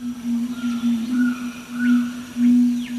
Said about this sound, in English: It's a male red-ruffed fruit crow booming out its display calls. Although black and crow-sized, with a gleaming red chest, the fruit crow is no kin to our crows, but a cousin of South American bellbirds.